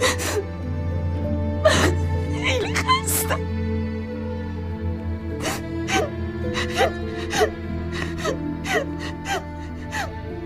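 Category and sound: human body sound, crying and whimpering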